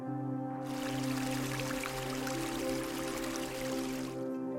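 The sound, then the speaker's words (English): A steady rush of a mountain stream fed by melting snow and flowing through gorges, with a bright, trickling texture, rising after a brief pause and fading near the end, over a soft sustained musical drone. “Patches of melting snow feed crystalline streams that dance through gorges and vanish into the stone.”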